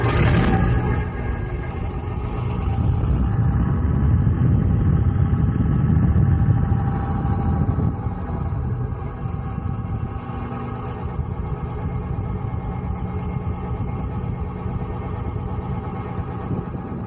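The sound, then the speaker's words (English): A Spitfire fighter plane of the Battle of Britain Memorial Flight, flying out over the sea off the Esplanade during Carnival Week: its piston engine drones steadily, a loud, deep rumble with a throaty growl that swells for a few seconds, then settles into a constant roar. No voices. “Well, the first sound was that of a Spitfire from the Battle of Britain Memorial Flight, which entertained crowds on the Esplanade during Carnival Week.”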